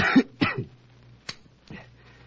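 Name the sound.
man coughing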